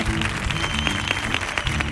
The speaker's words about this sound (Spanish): Así que un aplauso para nuestro público de esta tarde.